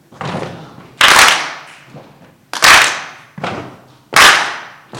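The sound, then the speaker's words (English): An audience, serving as the percussion section for a singer, stomps and claps together in a steady rhythm, heavy low thuds alternating with sharp, bright bursts of clapping, each hit ringing out briefly before the next, with no voices. “So I need you to stomp and clap for me.”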